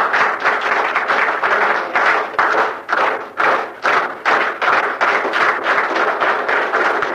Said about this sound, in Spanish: Entonces, un aplauso para el compañero. Un aplauso.